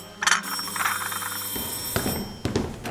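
A doorbell rings once with a bright, buzzy chime lasting about a second, followed by quieter rustling and a couple of soft knocks or thumps, with no one speaking.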